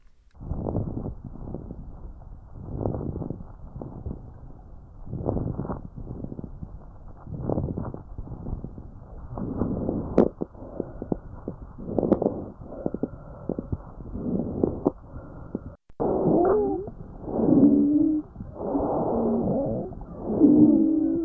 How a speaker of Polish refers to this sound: To teraz posłuchamy, jak brzmią nieprzyjemne dźwięki z naszych płuc.